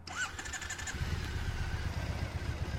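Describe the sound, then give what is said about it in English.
A 2012 Triumph Bonneville motorcycle engine starts with a brief whirring crank, then settles into a steady, smooth low idle with a fast, even pulse, sounding alone without any talking. “All right, so that's my 2012 Triumph Bonneville. It sounds like a Singer sewing machine.”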